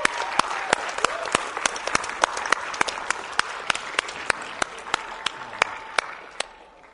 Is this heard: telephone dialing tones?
no